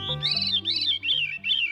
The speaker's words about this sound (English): The whirling, flute-like song of the veery rings through the trees of the northern United States and southern Canada during its summer breeding season. These tawny-colored thrushes raise only one brood of chicks each year